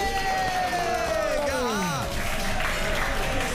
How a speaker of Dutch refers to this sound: mag ik een groot applaus voor